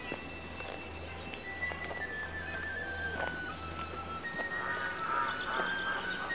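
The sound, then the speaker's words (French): Ducks quack on and off across a pond lined with trees in early spring, several nasal calls overlapping over a steady low outdoor rumble, with no one speaking. “Un canard, deux canards, c'est la danse.”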